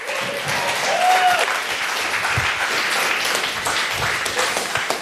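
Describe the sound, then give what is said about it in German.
A crowd bursts into sustained applause for a speaker introduced as a superhero, dense steady clapping filling the whole clip at an even loudness, with a few whoops and a brief whistle-like tone rising above it. “Und jetzt kriegt ihr mal so einen Superhelden in den Applaus, wie es ihr noch nie gehört habt, gell?”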